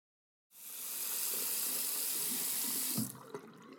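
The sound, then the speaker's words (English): A steady rush of shower water starts abruptly, hisses evenly for about two and a half seconds, then cuts off, leaving a few faint drips and clunks. “And since you seem good, you're awfully quiet, I'll just go shower up, okay?”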